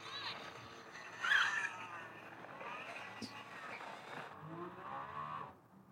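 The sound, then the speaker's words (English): Two supercars, an SF90 and a Revuelto, roar as they accelerate hard in a drag race, rising in pitch over a loud, steady rush of noise, with a brief louder surge early on before fading slightly at the end. “But SF90 of Revolto pulls ahead a little bit, and then the SF90 gains on it.”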